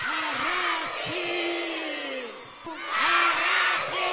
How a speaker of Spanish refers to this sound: y en la que se contó con más de 1.000 chavales de 11 centros escolares diocesanos distintos que a las 9 y media de la mañana se reunieron en el Parque de Doña Casilda en Bilbao para lanzar un grito de solidaridad.